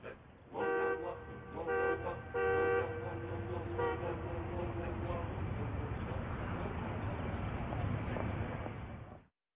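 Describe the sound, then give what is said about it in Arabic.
A car horn honks in a few quick, loud blasts early on, followed by a steady rumble of street traffic with a faint extra toot or two. “يعني تخيل كده لو اهل القرية بدل ما يركبوا الحمار يركبوا عربيات.”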